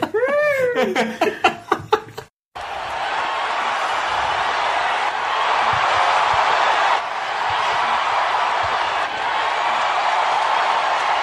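A couple of seconds of high, bubbly laughter cut abruptly into a loud, sustained roar of a large wrestling arena crowd cheering, a dense wall of noise that holds steady to the end.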